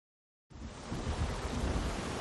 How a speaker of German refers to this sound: Wir müssen die Segel festheben, damit sie nicht wegfliegen. Der Wind ist richtig stark. Wir kommen fast nicht vorwärts.